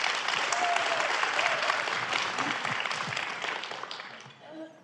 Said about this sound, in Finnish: Annetaan aplodit kaikille 3 kirjailijalle.